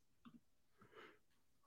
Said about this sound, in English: Sorry, big yawn there.